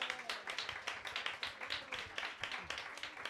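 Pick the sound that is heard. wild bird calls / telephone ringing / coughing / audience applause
audience applause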